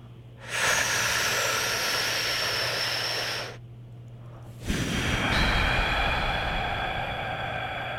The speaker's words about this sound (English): Let's do two more and really try to relax your body through this whole process. Sure. And on this one, I want you to exhale really good and extra relaxed.